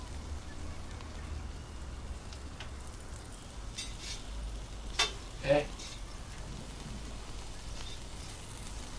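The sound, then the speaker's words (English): Food sizzles steadily in a frying pan on the stove in an apartment kitchen, a soft, constant crackling hiss, broken midway by a couple of brief clatters like a utensil stirring or tapping the pan. “cooks in the apartment kitchen, tending a frying pan on the stove”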